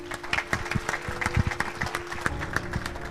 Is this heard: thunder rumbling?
no